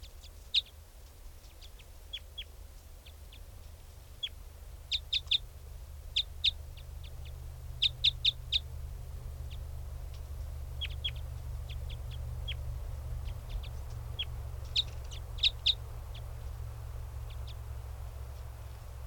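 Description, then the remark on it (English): A wild bird calls with sharp, high-pitched chirps that come in irregular bursts and clusters, fairly faint, over a steady low rumble of background noise, with no talking. “That was a wild bird.”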